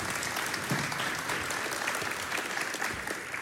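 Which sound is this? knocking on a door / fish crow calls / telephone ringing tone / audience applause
audience applause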